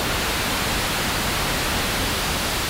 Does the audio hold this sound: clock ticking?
no